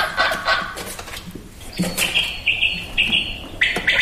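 A quail calls in a quick series of sharp, high whistled notes, clear, over a faint rustling background with no one talking.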